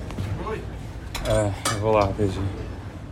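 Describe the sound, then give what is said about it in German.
A stocky cobbler sitting on a stool in a shoemaker's shop in Boa Vista strikes a leather shoe with a hammer in a few sharp, irregular knocks, with bright metallic clinks and ringing tones between the blows, moderately loud throughout. “Er hämmert auf einen Lederschuh.”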